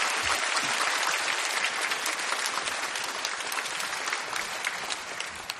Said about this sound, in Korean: 우리 귀한 목사님 보내주신 하나님께 감사의 박수 올려드리며 목사님 맞이하겠습니다.